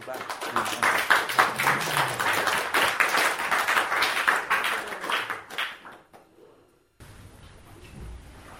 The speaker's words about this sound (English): So I request all of you to join your hands and give a roaring applause.